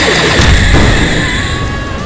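A dense, loud barrage of booming impacts and crashing bursts rolls on continuously, with a sustained electronic whine over the heavy low rumble, as the Falcon Zord fires a run of energy blasts that strike a monster, breaking its hold on the Shogun Megazord.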